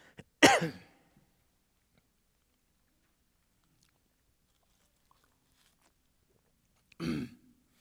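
A loud, harsh cough into a microphone near the start with a brief ringing reverberation tail, followed by long silence and then a second, softer cough or throat clearing near the end.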